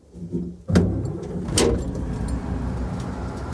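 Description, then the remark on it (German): A bus door slides and thuds shut as passengers board, followed by a second clunk, while the bus engine rumbles steadily underneath. Nobody speaks. “Angesteckt von der guten Laune des lustigen kleinen Busfahrers steigen sie ein.”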